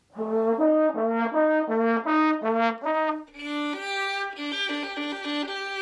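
A trombone plays a two-tone police-siren pattern, alternating high and low notes, then a violin joins with a brighter version of the same siren call, loud with no talking.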